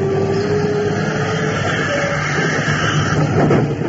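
A downtown subway train rolls into a station platform with a loud, steady rumble and a faint metallic whine from the wheels or brakes, with no voices.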